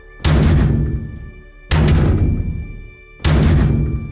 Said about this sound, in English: This time, three loud knocks.